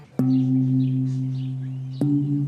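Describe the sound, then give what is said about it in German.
A funeral gong, used to call the neighbours to a burial, is struck twice, about two seconds apart. Each hit has a sharp attack followed by a deep, steady, humming ring that barely fades. No voices are heard. “So klingt der Gong, mit dem die Nachbarn zum Begräbnis gerufen werden.”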